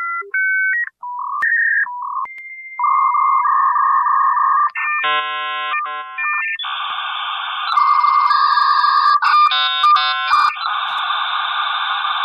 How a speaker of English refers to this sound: Dial-up internet. There it is again!